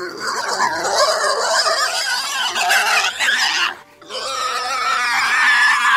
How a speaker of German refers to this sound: Boar. Boar ist in dem Fall ein Wildschwein, glaube ich.